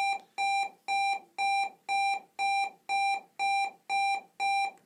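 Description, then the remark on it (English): A school bell sounds as a rapid series of about ten loud electronic beeps, each a bright buzzy tone of equal length, repeating in a steady, even rhythm with no voices. “that's the school bell.”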